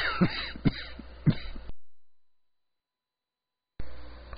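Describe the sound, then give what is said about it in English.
A harsh, unexpected burst of coughing from someone getting over a cough, three rough coughs in quick succession, followed by a sudden silence before faint background sound returns. “It still comes on me without warning, the cough that I'm getting over.”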